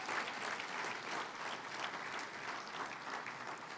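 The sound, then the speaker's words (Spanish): An audience applauds steadily, a dense, continuous wash of many hands clapping at an even level for several seconds with no voices standing out. “Dele más fuerte el aplauso, entusiásmese.”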